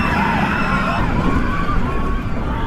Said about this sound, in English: Hey, wouldn't be a roller coaster show without screaming kids. Or parents.